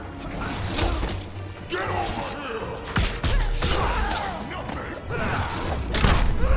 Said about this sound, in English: Okay, can we all hear this? The most annoying move that Shiva has is her stupid stomp.